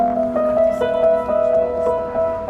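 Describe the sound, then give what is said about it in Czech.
Für Elise played by a local resident on an outdoor street piano in Ostrava-Jih, Czech Republic, notes struck one after another in a gentle, flowing rhythm, clear with a slight ambient hum behind, as trams and shoppers pass by and a small audience gathers. “obyvatelka Ostravy Jihu, právě vyhrává skladbu pro Elišku.”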